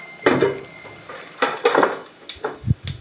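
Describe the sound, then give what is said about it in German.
A pot is handled while water is prepared for a water bath to hold oil, with a series of clattering metallic knocks and scrapes, several sharp clanks spaced irregularly, with a few dull low thumps near the end. “Das heisst Wasser abtun fürs Wasserbad, wo ich dann das Öl reinstelle.”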